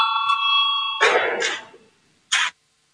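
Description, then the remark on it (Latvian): A parliamentary voting bell gives a steady electronic ring for about a second, rung to call a vote on proposal 184, then stops. A couple of short, noisy rustling bursts follow. No one speaks. “Lūdzu, zvanu, balsosim par 184.”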